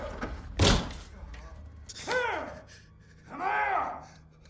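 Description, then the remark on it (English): A single heavy slam of bodies throwing themselves against a door as a man blocks it, followed by two drawn-out, rising-and-falling groaning moans over a low background rumble. “He blocks the door as bodies throw themselves against it.”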